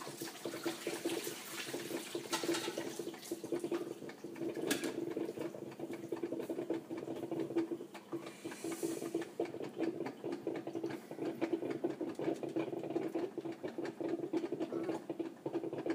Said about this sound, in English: The good thing is, I can take this hot water and dump it on the dirty dishes we have.